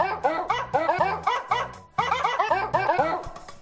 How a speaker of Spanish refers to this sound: ¿Qué te parece esta canción? Me encanta. Es la canción de Angry Birds, el juego de los pajaritos. Ay, qué bonita. Pero interpretada por perros.